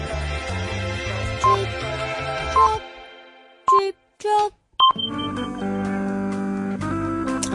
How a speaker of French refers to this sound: Vous êtes écouté Radio FMR, c'est le supplément week-end et il est midi 59 minutes et... Ah, c'est lounge. Ah, c'est l'heure de passer le bip, tiens. Non, pas celui-là. Pas celui-là, je suis là, tiens.